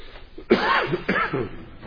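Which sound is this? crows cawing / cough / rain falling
cough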